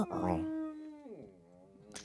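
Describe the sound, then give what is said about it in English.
A person imitates a Godzilla roar with a single drawn-out, howling vocal cry that holds a steady pitch and then slides downward, fairly loud. “let's get your Godzilla. Do yours.”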